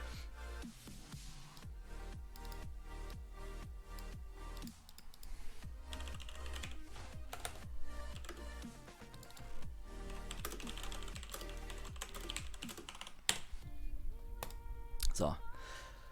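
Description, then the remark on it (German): Rapid clatter of computer keyboard typing as a tweet is written, in irregular bursts of keystrokes, with a few louder taps near the end, heard over a low background hum. “warum schreibe ich auf Twitter so merkwürdige Zeichen?”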